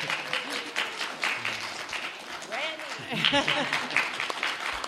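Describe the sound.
A group claps steadily for about five seconds, a dense crackle of many hands, with scattered voices and brief cheers mixed in under the applause.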